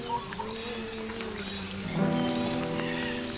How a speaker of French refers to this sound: La sécheresse a duré des années. Puis il a plu.